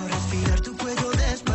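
A Latin pop song plays loudly and up close, with a steady beat of deep, thumping bass drops under bright layered instruments and no one talking over it.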